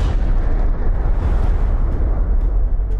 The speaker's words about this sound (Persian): جی رابرت اوپنهایمر، ملقب به پدر بمب اتم، در لحظه انفجار اولین بمب در نیومکزیکوی آمریکا، شعری از بهاگاباد گیتا، حماسه معروف هندیان را نقل می‌کند.